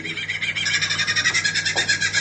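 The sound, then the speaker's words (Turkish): A bird mimicking other birds' calls delivers a rapid, steady run of repeated bright notes, fairly loud, with no one talking over it. “Bütün kuşların diyor değil mi? Seslerini taklit edebiliyor diyor, kabiliyete sahip.”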